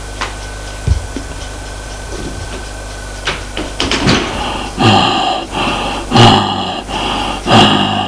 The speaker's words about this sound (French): Elle ouvrit la porte de la chambre.